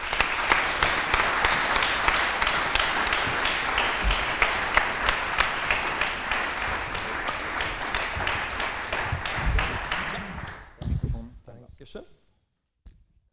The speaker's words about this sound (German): Euren Applaus für unseren Damen-Headcoach Sagan Duran.